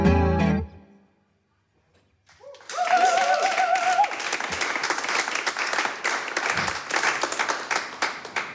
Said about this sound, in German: Herzlichen Dank für diesen tollen Applaus.